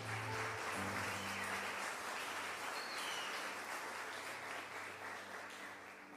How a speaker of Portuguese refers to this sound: Você pode dar um beijo na sua Bíblia e aplaudir bem forte o nome de Jesus.